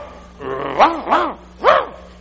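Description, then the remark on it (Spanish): Two dogs barking at a fox at the house: three sharp, high, yelping barks in an uneven rhythm, the second following quickly after the first, then a short pause before the third. No one speaks. “Pero también ladra más que algunos perros que andan ahí. Entonces, empiezan los dos.”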